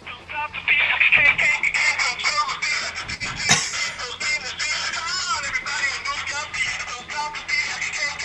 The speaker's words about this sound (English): MacGyver's my ringtone for Skype. That's just awesome. It's beautiful. That's awesome.